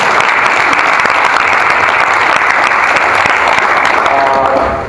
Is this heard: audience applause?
yes